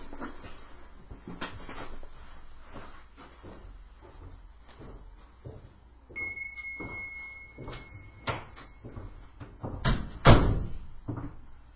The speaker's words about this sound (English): And I'm just going to close my office door because I just heard someone come in upstairs.